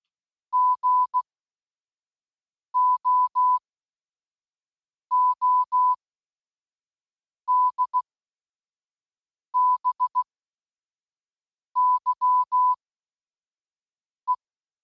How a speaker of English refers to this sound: Translated in Morse code? Goodbye. It was a reply to the message we sent nearly 11 years ago.